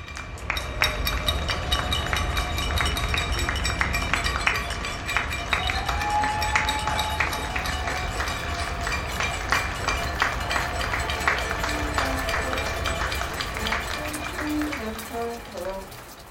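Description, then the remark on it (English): A recording of the nightly cheering for healthcare workers in Barcelona and Toronto: many people cheer and clap at once in a steady, dense roar, with sharp clattering hits throughout and a few whistled or rising tones standing out, ending in a string of short, stepped tones. “It begins with a recording of the nightly cheering for healthcare workers in Barcelona and Toronto.”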